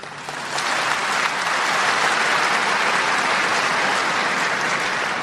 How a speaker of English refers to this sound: Dr. Zakir Naik, congratulations and best of luck for starting Peace TV. I request all the audience to give him a big clap.